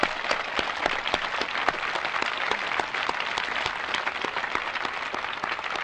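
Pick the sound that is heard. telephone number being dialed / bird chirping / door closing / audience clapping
audience clapping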